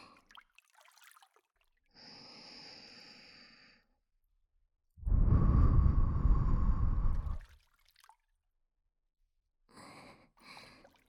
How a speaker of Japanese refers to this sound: 耳の中、私の吐息が当たってるのわかりますか？帆に風を受け、推進力を得るときのようにくるくると丸まったあなたの耳に吐息がかかる。